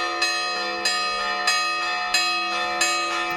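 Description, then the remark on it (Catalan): Church bells of the village church in Gombrèn, Ripollès, Catalonia, ring the Angelus at 12 noon, driven by a new bell tower mechanism, at considerable volume, in a steady sequence of about six evenly spaced strikes, each with a long shimmering overlapping ring, clear with no voices. “És el repic de les campanes de l'Àngelus a les 12 en punt a l'església del poble.”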